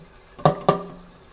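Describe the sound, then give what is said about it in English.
Two quick metallic clanks of a very hot pan knocking against a sink as it is washed, each ringing briefly before fading. Fairly loud, with no voices. “Don't you just love doing dishes? Especially with a very hot pan.”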